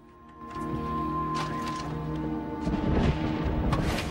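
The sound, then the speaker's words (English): Deep rolling thunder from a lightning storm over open water near a jetty rumbles steadily for several seconds, swelling louder toward the end over a low, sustained droning tone. “The thunder and streaks of lightning make the man check the skies again.”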